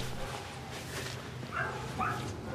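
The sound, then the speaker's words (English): A scruffy dog lets out two short, high-pitched whimpering yelps about half a second apart, over a steady low background hum. “Rocky and the scruffy dog make eye contact.”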